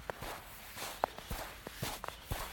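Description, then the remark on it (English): Footsteps crunch through about an inch of fresh overnight snow, the first snow of 2014, at an unhurried walking pace while walking a dog at 6:30 in the morning; about six soft, muffled steps with a faint hiss of background, and no one speaking. “It's snowing.”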